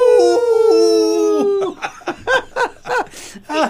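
A loud wolf howl holds a long, wavering tone for over a second before sliding downward, then gives way to a quick run of six short, rhythmic yelping bursts.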